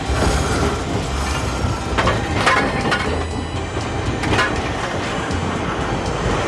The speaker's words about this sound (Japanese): 今回はそんな見どころが満載の函館のおすすめスポットを紹介していくのですが、函館の街を巡るための強い味方が路面電車です。